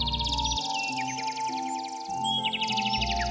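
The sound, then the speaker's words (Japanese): A sparrow chirps rapidly and continuously in a garden one morning, bright high tweets repeating over a soft, steady musical background with no voices. “あれあれ、あんたはあの時のスズメかい。嬉しいね、会いに来てくれたのかい。スズメは嬉しそうに鳴くと、おばあさんの前に小さな種を落としてそのまま飛んでいってしまいました。”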